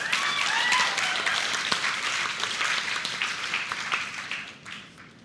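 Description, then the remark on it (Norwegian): A church audience applauds the pastor's wife, a dense crackle of many hands clapping at once, loud and sustained before gradually thinning and fading out toward the end. “En applaus for kona, ja.”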